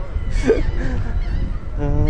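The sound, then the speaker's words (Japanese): Seagulls call in two harsh, squawking bursts, one near the start and another at the end, fairly loud against steady outdoor background noise, at a seaside amusement park with few attractions running, by the Atlantic Ocean. “営業してるのはカモメだけだ。”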